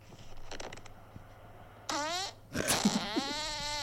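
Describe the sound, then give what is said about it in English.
A long, loud recorded fart lasting about 10 seconds, with a wavering, rising-and-falling pitch, almost tune-like, followed by a second sputtering burst; faint background noise before it, no talking. “you let me know what your favourite is. What my favourite fart is.”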